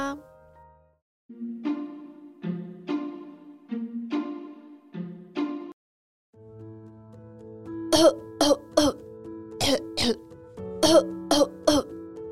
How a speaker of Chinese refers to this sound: 小朋友，你有咳嗽过吗？一直咳嗽是不是会很不舒服啊？小猪胖胖最近也一直在咳嗽，到底发生了什么事情呢？